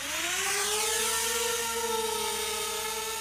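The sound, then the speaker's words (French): A small drone whirs steadily, its high-pitched buzzing motors rising in pitch at the start as it lifts off, then holding a constant, loud drone without any voices. A doctor in his sixties flies it from a wooded hill about fifteen kilometres from the city centre toward a fenced industrial site. “Pour savoir ce qui se passe derrière les grilles, le médecin d'une soixantaine d'années s'est équipé d'un drone.”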